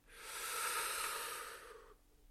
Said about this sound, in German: Und ich lade dich mal zu einem tiefen Atemzug ein, einfach mal tief inhalieren, tief atmen und kapieren, das kann dein Jahr werden, dieses 2025.